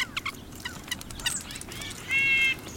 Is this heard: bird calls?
yes